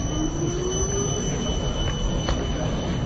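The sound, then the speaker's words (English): A tram in Switzerland rumbles past, steady low rail noise with a thin, rising wheel squeal and faint metallic screeches running through the whole pass. “Just waiting for the tram to go past.”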